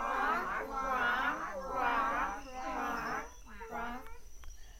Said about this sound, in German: Vorsichtig gehen sie den Pfad entlang und siehe da, keine Schlangen oder Affen, nur ein paar Frösche quaken.